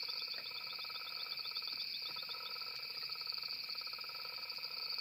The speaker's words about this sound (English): So that's one of the frogs. Yeah. Real croak. It's a genuine croak.